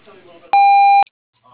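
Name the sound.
voicemail recording tone beep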